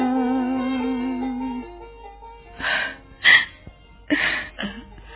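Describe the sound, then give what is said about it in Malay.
A woman cries softly, letting out four short, breathy sobs and sniffles in uneven bursts after a sustained tone fades away. It is fairly quiet, with no talking. “Tuan Putri, kau menangis?”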